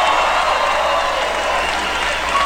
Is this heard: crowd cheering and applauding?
yes